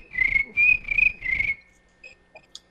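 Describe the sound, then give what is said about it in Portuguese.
An artificial cricket chirp played from an audio clip sounds four times in an even rhythm, each a shrill, steady, whistle-like tone over a low rumble, followed by a few faint, brief clicks and blips. “e eu tenho um grilo artificial, que é o meu áudio aqui.”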